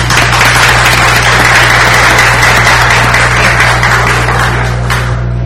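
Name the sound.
applause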